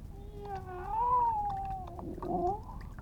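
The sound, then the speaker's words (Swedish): A cat gives a long, drawn-out, plaintive meow that wavers up and down in pitch, fairly loud, with no talking. “Kissan ligger på ugnen sjuk, hon klagar där sin nöd.”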